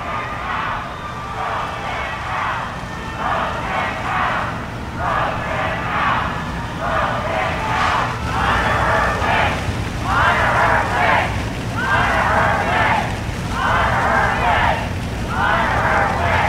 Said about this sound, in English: President Donald Trump and First Lady Melania paid their respects, both wearing face coverings. As Trump stood, a gathered crowd nearby began booing loudly and then chanted, "Vote him out and honor her wish."